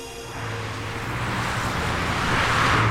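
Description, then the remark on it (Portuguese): Steady traffic noise from many cars driving along the boulevards, most of them horseless and engine-driven, a continuous engine rumble and road hiss that swells slightly louder toward the end, with no voices. “Com efeito, dentre os inúmeros carros que sulcavam o leito dos bulevares, a maioria avançava sem cavalos.”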